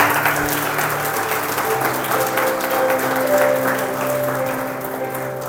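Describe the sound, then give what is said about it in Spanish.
An audience applauds for Christ Jesus steadily for several seconds, a dense wash of clapping hands at an even, sustained loudness, with a faint sustained musical tone underneath. “Denle un aplauso a Cristo Jesús, por favor.”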